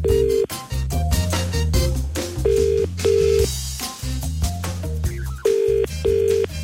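A run of telephone dialing tones gives way to repeated ringing, clear and loud, layered over a dense musical backing with no one speaking.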